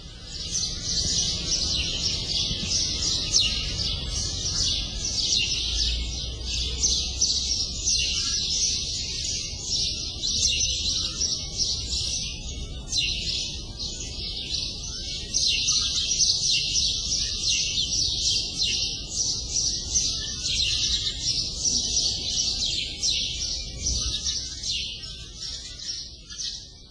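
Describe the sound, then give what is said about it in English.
A dense, unbroken chorus of many birds nesting in a wall at Grigate, Mdina, in July, chirping and twittering at once, steady for the whole stretch, with a faint low background rumble and no talking. “Birds, yes, and yep. Grigate and Mdina in July. Yep, nesting in the wall.”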